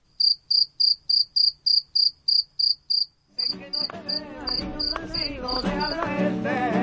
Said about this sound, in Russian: Вечер, и начинается концерт сверчков. Их стрекот слышен на каждой городской улице.